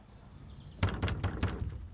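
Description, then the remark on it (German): Several heavy thuds strike a wooden door in quick succession, about four blows landing close together, loud with a dull, booming resonance and no voices, as men who have come to collect a dead man's debts demand that his widow open the door. “Weib, mach die Tür auf!”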